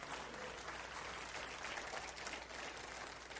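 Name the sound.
audience clapping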